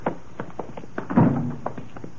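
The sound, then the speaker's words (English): A steady run of footsteps at nearly 2 a.m. on Long Island, roughly a dozen dull thudding steps at a brisk, even pace, with one heavier scuffing step in the middle and no voices. “Footsteps sound kind of loud this time of night.”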